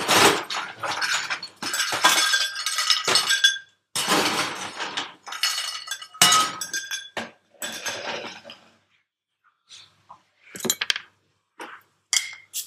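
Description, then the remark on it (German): Small glass bottles of Fentimans ginger beer clink and knock together repeatedly in bright, ringing bursts while a drink is mixed with Sipsmith Summer Cup and a squeeze of lemon, busy at first, then thinning to scattered taps and clinks with short pauses. “Diese kleinen Flaschen Fentimans Gingerbier jetzt mit Sipsmith, Summer Cup und so ein Spritzerchen Zitrone”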